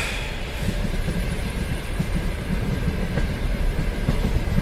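A train arriving at a station rumbles steadily, its wheels clattering in a dense, continuous roar over the rails with a faint high hiss above, holding level throughout with no voices.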